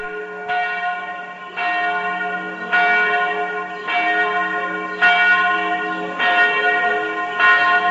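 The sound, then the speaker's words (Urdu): Traditional church bells of the Church of the Nativity in Bethlehem, West Bank, ring out at Christmas in a steady, repeating peal. Each strike blooms into a rich, lingering tone that overlaps the next. The ringing is loud and clear, with no voices. “Church of the نیٹیوٹی میں روایتی گھنٹیاں بجائی گئیں.”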